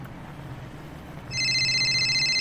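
phone ringing

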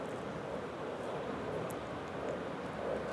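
airplane flying overhead

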